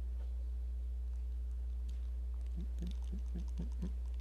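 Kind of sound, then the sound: household object, computer keyboard key presses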